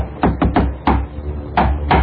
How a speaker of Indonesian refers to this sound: Tiba-tiba saja ada yang mengetuk pintu kamarku.